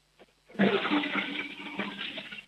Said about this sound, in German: Hier kommt die Kärntner Klospülung von Sebastian.